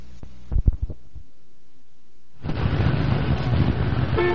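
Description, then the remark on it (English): A few low thumps at the start, then quiet, then a sudden, steady wall of traffic noise from a traffic jam at 7:30 in the morning: rumbling engines and a dense roar of a jammed road, fairly loud, with no talking. “Well, here we are again, 7:30 in the morning, and sitting in another traffic jam.”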